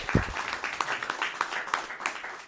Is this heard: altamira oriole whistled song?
no